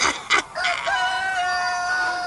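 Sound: roosters crowing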